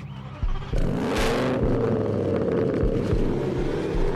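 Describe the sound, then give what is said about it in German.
The loud, modified exhaust of a tuned luxury car roars and revs hard, with deep rumbling pulses and crackling bursts filling the whole stretch after a brief quieter idle at the start. “Junge Männer, die ihre ganze Freizeit damit verbringen, ihre recht luxuriösen Autos aufzufrisieren, tiefer zu legen, sie mit glitzeriger Folie zu überziehen oder das Geräusch vom Auspuff aufzuschrauben.”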